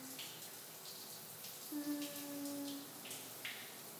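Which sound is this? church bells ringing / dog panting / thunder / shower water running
shower water running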